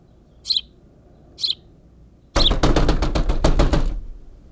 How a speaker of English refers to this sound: The temporary fix is to simply bang on the air conditioner, which works anywhere from 30 seconds to 5 minutes at a time. Allow me to demonstrate.